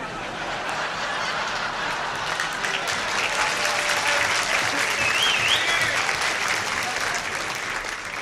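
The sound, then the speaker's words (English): Sustained applause from a large audience for Dean Martin fills the whole stretch, a dense steady patter of clapping with a few scattered whistles and cheers rising through it, loud throughout. “I'm not too sure whether you applauded for Dean or we should stone some more embassies.”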